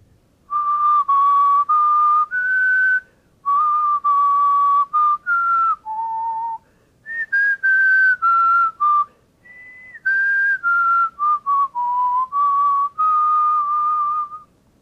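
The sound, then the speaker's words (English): A person whistles a clear, steady melody of sustained notes that step up and down in pitch, phrased in short groups with brief pauses between them, alone with no talking; a candidate's whistled response in a melody test, scored 9 and entirely accurate in pitch and rhythm. “This is an example of a completely correct response, and it demonstrates that whistling is indeed permitted.”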